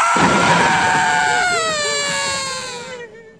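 A loud, sustained, piercing scream rises sharply and wavers for about three seconds before trailing off, with no other voices; a sound effect in an advertisement for the thriller play Shame, set in a dungeon.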